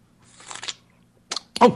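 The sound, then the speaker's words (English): Three short, airy slurps from a cup of tea, with brief pauses between them; the last sip is the loudest and wettest, and no one speaks. “You were slurping, weren't you? I was slurping, yes.”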